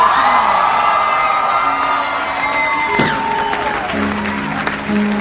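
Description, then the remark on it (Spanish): An audience erupts in loud, sustained cheering and applause as a shout of victory, with whoops and high shouts rising over the crowd noise throughout, steady for the whole stretch. “Alguien dé un grito de victoria en este lugar, vamos.”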